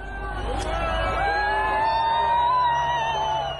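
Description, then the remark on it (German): A large crowd, many waving Ukrainian flags, cheers and shouts in a dense, steady roar as a man climbs a passing Russian wheeled armoured vehicle and waves the blue-yellow flag. Scattered whoops and a sustained whining tone run underneath for the full few seconds. “Die Menge jubelt.”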